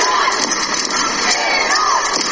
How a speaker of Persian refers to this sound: اما در این استادیوم کوچک تعداد زیادی زنان ایرانی هم حضور پیدا کردن و در حال فریاد زدن و تشویق تیم ملی ایران هستن. صدای اونها رو با هم بشنویم.